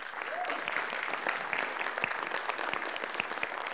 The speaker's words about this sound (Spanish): ¿Sí? Damos un aplauso a Dios por la vida de ellos.